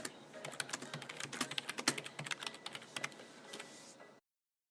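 Rapid, uneven keystrokes clatter on a computer keyboard for about four seconds at 4 p.m. Central Time, recorded as an audio snippet for the Sounding Out blog, fairly crisp, with occasional louder clicks before stopping abruptly into silence.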